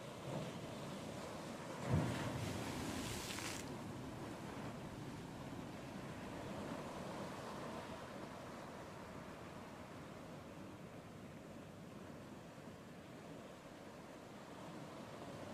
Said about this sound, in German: Und wir gucken jetzt an den Strand. Der Sand schimmert am grellen Sonnenlicht. Wir hören die Wellen plätschern.